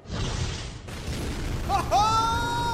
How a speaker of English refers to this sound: An explosion has ripped through the Winter Palace of the Shadowfell on the plane of existence known as the Abyss.